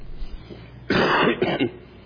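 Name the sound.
coughing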